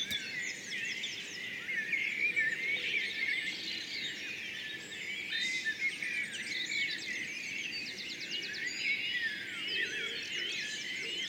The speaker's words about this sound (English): There are good reasons for birds to sing at this time of day.